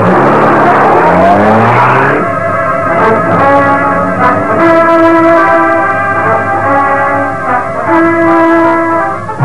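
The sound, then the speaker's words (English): A car, the Black Beauty, roars and its engine climbs sharply in pitch as it accelerates away, then holds a loud, steady whining drone with tire squeals and scraping noises over it. No one speaks. “Now get behind the wheel. You'll do the driving.”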